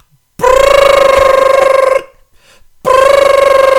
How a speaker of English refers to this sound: But you were smart and called the house phone, because that phone never, ever freaking rings.